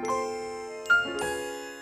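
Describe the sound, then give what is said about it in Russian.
A small bell rings with a few bright, overlapping strikes, its clear tones sustaining and shimmering between hits. Moderately loud, with no voices. “Что это? Колокольчик?”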